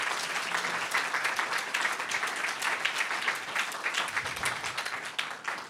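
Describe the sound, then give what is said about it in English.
A crowd applauds the panellists steadily, with many hands clapping in a dense, continuous patter at a moderate level that stays even for several seconds, with no talking over it. “And please, can we have a round of applause for all the wonderful panellists?”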